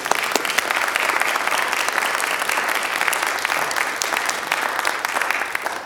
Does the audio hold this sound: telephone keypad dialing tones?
no